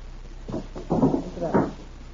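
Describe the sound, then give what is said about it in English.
A window being shut: three dull, wooden bumps and scrapes over about a second, the middle one longest and loudest, with no voices. “Oh, one thing I forgot to close that window.”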